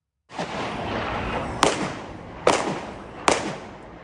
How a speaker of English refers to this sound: Eyewitness video shows one of the gunmen wearing a brown backpack exchanging gunfire with police. One suspect was killed in the shootout and two others wounded.